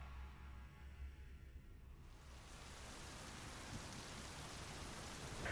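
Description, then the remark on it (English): Heavy rain pours down in a steady, dense hiss that swells after a quieter low rumble at the start, then stays loud and unbroken with no voices. “Rain upon rain upon rain.”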